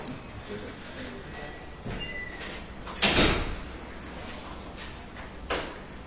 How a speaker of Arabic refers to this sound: بالله عليك اغلق الباب شيء اغلق الباب عشان الإخوة الفارقة أتعبونا من الذهاب والمجيء